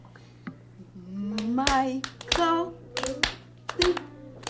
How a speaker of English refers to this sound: Clap the whole thing.